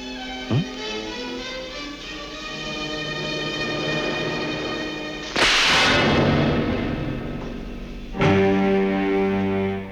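A sharp, loud slap across a man's face cracks out midway over a sustained, droning dramatic music score, followed a few seconds later by a heavy orchestral hit.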